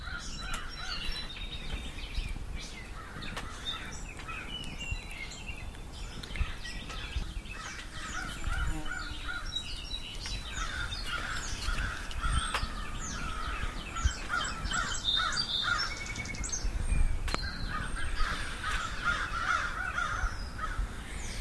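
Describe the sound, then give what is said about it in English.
A flock of crows caws continuously near a house, many harsh overlapping calls layered over one another at moderate loudness, with no voices heard. “And that's a flock of crows.”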